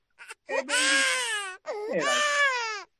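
A newborn baby cries loudly and close up in two long, strained wails separated by a brief gasp, each preceded by short whimpering catches of breath.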